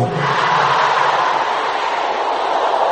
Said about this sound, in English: Can I hear all the sisters here shouting this loud and clear? Powers that will not let me go.